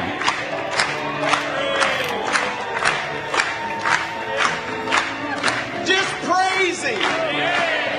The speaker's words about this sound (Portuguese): Louvado seja Deus. Vamos bater palmas para Ele novamente.